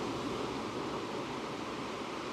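A steady, full wash of ocean surf fills the whole stretch, a dense continuous roar without distinct breaking waves or voices, evenly loud from start to finish.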